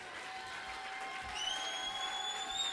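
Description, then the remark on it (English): A church audience worshipping God claps steadily and densely for the whole stretch, with faint cheering and shouting mixed in and thin sustained high tones ringing over the applause. “Oh, clap your hands and shout to God.”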